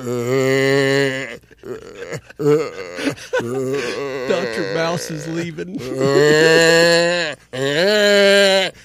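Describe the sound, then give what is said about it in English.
A man's voice imitates a newborn calf's loud, drawn-out bawl, several long wavering cries, with brief bits of garbled vocalizing between them. “I would just start bawling like a newborn baby calf.”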